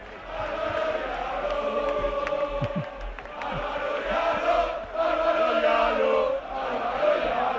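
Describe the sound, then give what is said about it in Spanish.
A dense crowd shouts and cheers steadily in encouragement of Álvaro Yaló, many voices overlapping in a loud, continuous roar with rising chant-like swells. “Los gritos de Yaló. A ver si lo escucháis.”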